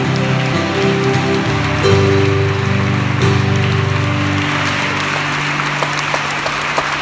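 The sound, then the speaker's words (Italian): A crowd applauds for the Lord Jesus in a dense, steady wash of clapping for about seven seconds, while low sustained musical tones hold underneath and shift pitch partway through. “Un applauso al Signore Gesù.”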